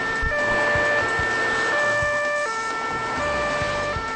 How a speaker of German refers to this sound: Sofort rasen mehrere Streifenwagen zur Bank, um die Täter noch am Tatort zu fassen.